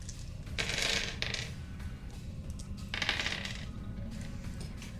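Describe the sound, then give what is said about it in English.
Dice clatter across a hard surface in two separate rolls, each a quick burst of rattling clicks, over a low steady background rumble with no talking. Two bonus dice are rolled for an aimed attack in a game. “Two bonus dice. Yes. Here goes.”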